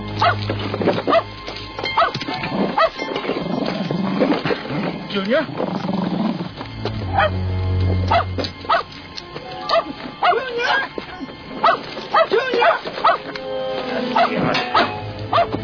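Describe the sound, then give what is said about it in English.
A dog barks and growls aggressively, with rough snarls and sharp barks recurring throughout while people talk over the commotion. “Shut that mud up. Hey, doggy. He's a nice dog.”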